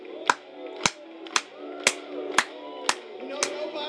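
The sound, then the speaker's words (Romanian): An audience claps in unison along to a worship song, seven sharp, evenly spaced claps about half a second apart, ringing over a sustained background of voices or music. “Hai să o batem de palme pentru el.”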